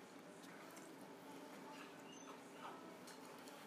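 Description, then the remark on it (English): Dogs whimper softly over a steady background hiss, with a few brief, higher-pitched whines and yips scattered through. The sounds stay faint throughout, and no one speaks. “I got these dogs.”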